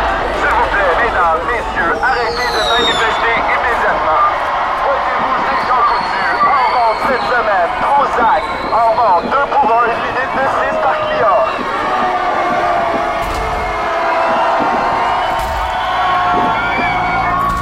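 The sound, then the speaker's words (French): A large, agitated, deeply moved crowd of squatters fills the Place Vinci with a dense, steady roar of overlapping voices, scattered shouts and whoops rising above the constant loud murmur throughout. “vient de prendre la parole devant une foule terriblement émue”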